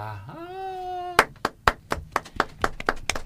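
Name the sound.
round of applause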